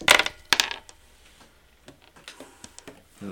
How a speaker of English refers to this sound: No, I've lost the dice again. I keep rolling bad, my dice all over the place.